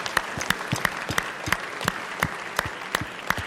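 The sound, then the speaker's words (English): An audience claps together, a steady patter of many hands with a few sharper, louder claps standing out at a quick, irregular rhythm, and no one speaking. “Can we clap for that?”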